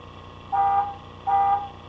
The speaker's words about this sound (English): It's honking. You want the horn? Yeah. Yeah.